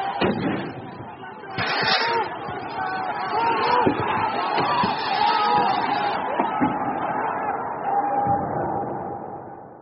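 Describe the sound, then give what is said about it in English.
Thousands of far-right rioters, supporters of former President Jair Bolsonaro, storming Brazil's capital city shout and yell in a dense, continuous roar, with individual raised voices rising above the din and a few sharp bangs mixed in. “On Sunday, thousands of far-right rioters stormed Brazil's capital city and its halls of power.”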